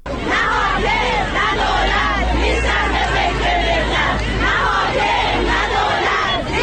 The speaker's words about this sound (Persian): شماری از فرهنگیان بازنشسته در تعدادی از استانهای ایران صبح پنجشنبه در برابر ادارات آموزش و پرورش تجمع کردند و نسبت به وضعیت بد معیشتی خود دست به اعتراض زدند. شعارهای اعتراضی فرهنگیان در اصفهان هم جنبه صنفی داشت و هم سیاسی.